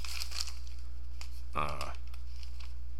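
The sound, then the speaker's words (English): Crisp rustling and crinkling of the pages of a Friday newspaper being handled, in scattered bursts over a steady background hum, with a short voiced sound briefly breaking in midway. “I grabbed a newspaper because I got nothing to talk about.”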